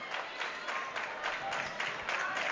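Hammond basketball fans clapping late in the game after a crossover by Walker, in a steady, continuous wash of applause with a loose pulsing rhythm, blended with general crowd noise and no single voice standing out.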